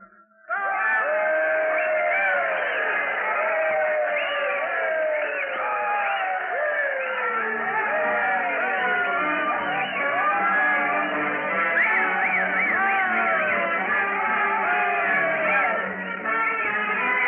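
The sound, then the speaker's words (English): A large crowd in Keeler, with a brass band lined up, cheers and whoops loudly and without pause as a train arrives at the end of its run toward Death Valley, many voices overlapping in rising and falling shouts at a steady level. “There'll be a crowd in Keeler waiting to welcome the train at the end of its run, probably the biggest crowd this little place has ever known.”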